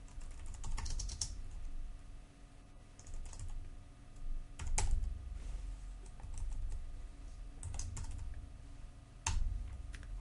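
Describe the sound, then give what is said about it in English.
Keyboard typing with irregular bursts of clicky keystrokes as a line of code is typed in Visual Studio, a few sharper taps standing out, over a low steady background hum and no voices. “So now we can finish typing this line of code.”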